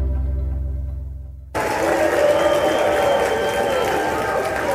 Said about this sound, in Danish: Den her jubel er også et udtryk for en form for lettelse i repræsentanternes hus, da det i går stod klart, at man ville vedtage, eller man vedtog at sende en længe ventet støttepakke til Ukraine.